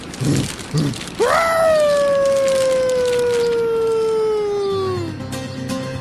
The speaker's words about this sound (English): Hey, that's a wolf.